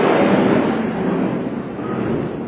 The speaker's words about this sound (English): Let's let the plane fly over.